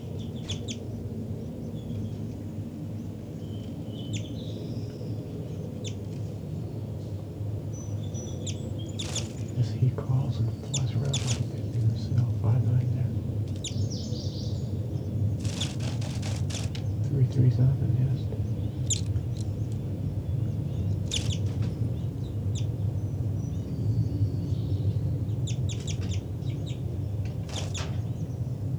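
Short, sharp calls from birds at a nest break out irregularly, some in quick clusters, over a steady low rumble. A few sound like soft clucks, and no one speaks.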